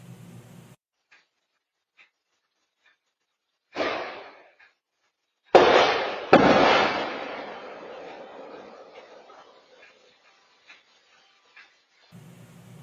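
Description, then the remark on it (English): A brief whooshing rush, then a pause before two sharp, loud reports fire in quick succession, their noisy tail slowly fading away. No one speaks. “We'll play it two times, and if you watch and listen closely, you'll hear a sort of whooshing sound, then a flash, and the two reports come very quickly after that.”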